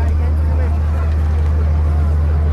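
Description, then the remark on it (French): The small outboard motor of an inflatable boat crammed with about a hundred people drones steadily and loudly throughout, a constant low hum over water and wind noise, with faint indistinct voices mixed in. “Oh, il y a une bonne centaine de personnes à bord, entassées entre deux boudins complètement dérisoires et un moteur encore plus dérisoire.”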